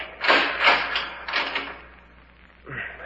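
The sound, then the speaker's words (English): A door to a morgue's back room in Holman being opened and the lights snapped on: a few broad rattling, scraping bursts in quick succession, then a short pause and a brief creak or clunk at the end. No one speaks. “All right, lower it to the floor while I open the door and snap on the lights.”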